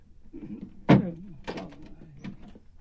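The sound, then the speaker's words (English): A grandfather slides a door chain free and opens the door to let his granddaughter in: a sharp metallic clack, followed by a couple of softer rattling thunks and creaks, moderately loud. “You've got the door chained. Let me in, Grandpa.”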